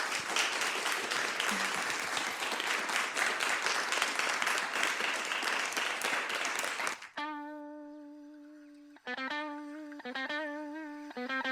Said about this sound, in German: Vielleicht können wir nochmal applaudieren für alle.